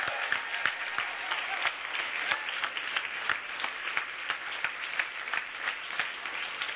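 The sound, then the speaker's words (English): An audience claps together in a steady, dense burst of applause, many hands producing a continuous crackling wash with no voices standing out, holding at an even level throughout. “Can we give a clap like we did for this?”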